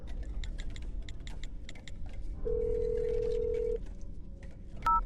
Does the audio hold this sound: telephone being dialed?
yes